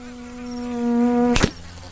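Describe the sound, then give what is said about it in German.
A fly buzzes steadily, its drone swelling slightly louder, then a sudden sharp snap cuts it off as a frog shoots out its long tongue and catches the fly, leaving near silence. “Er hat gerade seine lange Zunge ausgestreckt und eine Fliege gefangen.”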